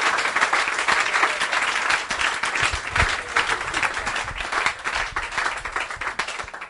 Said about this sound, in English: Let's give the Lord a clap, eh? Zaklaszmy dla Boga.